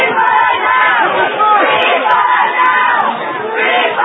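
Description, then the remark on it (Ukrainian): About 40 Israeli demonstrators in front of the Western Wall in Jerusalem shout the slogan "Free Pollard immediately!" together, a dense, loud wash of overlapping raised voices that swells and recedes in waves for the whole few seconds, with no single voice standing out. “«Звільніть негайно Поварта!» – вигукували вони.”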